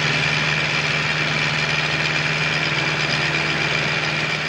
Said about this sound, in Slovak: Traktory.